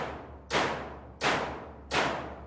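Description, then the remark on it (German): Three evenly spaced knocks from hammers driven by magnets and controlled by networked microcontrollers, striking a wooden hut, each a sharp, bright hit with a lingering decay, about two-thirds of a second apart over a low steady hum. “Die Idee war nun, möglichst ohne viel Eingriff in das bestehende Gebäude das Instrument zu bauen und mit vernetzter Elektronik, mit Mikrocontroller und Dubmagneten Hammerwerke zu bauen, die diese Hütte beklopfen.”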